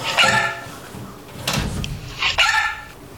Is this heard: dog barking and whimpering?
yes